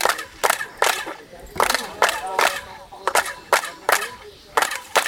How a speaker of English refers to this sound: We know from acoustic science how the noise is created. Each step gives a little reflection and these slowly space out a bit, which gives you this dip in frequency and chirping sound.